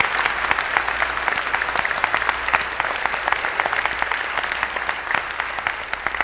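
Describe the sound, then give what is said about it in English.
An audience gives a clap offering to the Lord, applauding steadily for about six seconds, a dense, even wash of many hands clapping at a constant loud level with no voices breaking through. “I want you all to give the Lord a clap offering”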